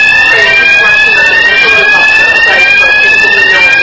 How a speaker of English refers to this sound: Fire alarm. The devil doesn't want this message to be preached. We'll find out what he wants us to do. Yeah. So does he want us to go out or does he want to stay in? It is a fire alarm.